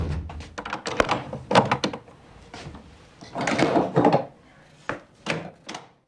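Several heavy wooden knocks and thuds as a wooden door is shut, then a longer scraping slide of metal bolts being pushed home, followed by a few more clunks. Fairly loud, with no talking.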